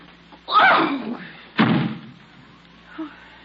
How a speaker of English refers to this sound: Don't slam the door.